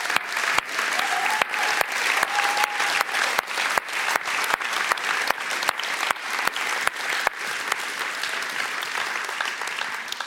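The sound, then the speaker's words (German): Sustained audience applause for a church's worship band: a dense steady wash of many hands clapping at even loudness throughout, with a regular rhythmic clapping pulse running through it and a faint whistle or cheer briefly rising above. “Und jetzt geben wir mal einen riesen Applaus allen Worshippern, die ganz viel Einsatz und Leidenschaft.”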